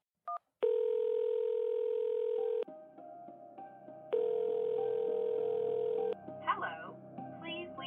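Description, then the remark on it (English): A short beep, then two long, steady telephone tones about two seconds each with a quiet gap between, like a call ringing through on the line, followed by faint muffled sounds. “while his wife kept herself busy assessing and approving bank loan applications, was to check on her via phone call several times a day.”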